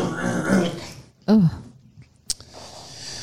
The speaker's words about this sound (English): Hang on a second. I need to let me clear my throat.